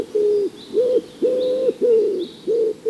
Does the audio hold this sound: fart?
no